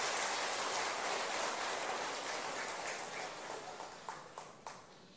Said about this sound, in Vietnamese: Quý vị hãy cho một tràng vỗ tay để tán dương.